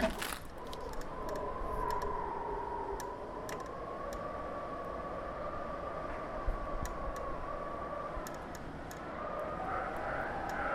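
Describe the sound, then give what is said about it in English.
Gale-force wind howls through the jamb of a half-open door up on the 9th, in very windy weather: a steady, mid-pitched whistling tone that slowly wavers and rises over a continuous rushing roar, with occasional faint clicks and rattles. No one speaks. “But when you have the door halfway open and halfway closed, because it's so very windy up here on the 9th, very windy, and the weather is, you know, making itself very much known, you get a very cool noise at the door jamb.”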